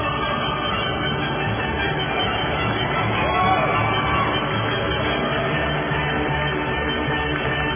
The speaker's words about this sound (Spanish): Démosle los aplausos y el himno a la alegría a Terry Lynn Carr